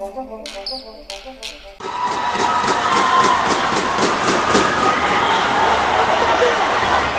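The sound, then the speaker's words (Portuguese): Loud, steady crowd commotion in the Ginásio de Esportes of São Gabriel da Cachoeira during the final of the 2018 women's futsal tournament: many overlapping voices shouting and chattering at once, preceded by a brief stretch of clear tonal notes before the noise swells in. “O que acabamos de ouvir é a agitação no Ginásio de Esportes de São Gabriel da Cachoeira, durante uma partida de futebol feminino.”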